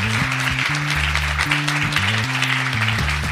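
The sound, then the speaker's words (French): An audience claps steadily in a dense, continuous wash of applause, with a bass-heavy musical line stepping between low notes underneath. No one speaks. “On peut l'applaudir parce que c'est pas un exercice facile.”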